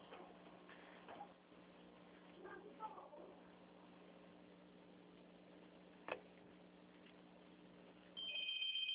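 household object, telephone ringing

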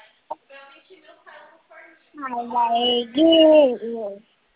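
human body sound, baby babbling

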